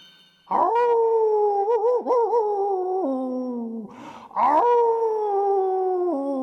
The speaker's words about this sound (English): And again there came a threatening howl from outside.